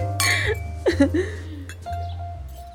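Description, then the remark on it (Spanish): During a toast, a couple of quick, bright glass clinks ring out one after another, with faint voices and a soft lingering tone in the background. “Ay, bueno, propongo un brindis por quienes jamás hemos cometido delitos.”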